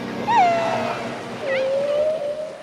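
Two long, tonal underwater calls from a whale or dolphin, the first rising then sliding down, the second a drawn-out, slowly rising moan, set against a steady ocean hiss.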